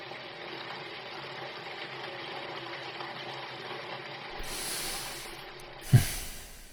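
rushing water

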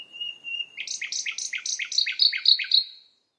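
birds singing in spring

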